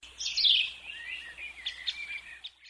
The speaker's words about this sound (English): The birds are back,